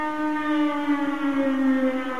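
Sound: civil defense siren wailing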